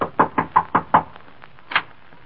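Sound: knocking on a door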